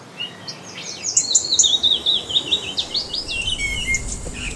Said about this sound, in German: Gestresst? Müde? Schlecht gelaunt? Da könnte ein wenig Vogelgezwitscher helfen. Tübinger Forscher haben die Vögel gefunden, deren Gesang wir am angenehmsten finden.